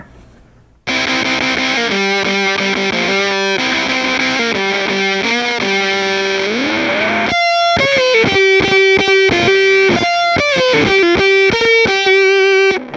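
Electric guitar through a 1960s Fuzzrite fuzz pedal, with the reverb turned all the way down, plays a loud, thick riff of sustained buzzy notes with a rising slide midway, heard alone with no talking.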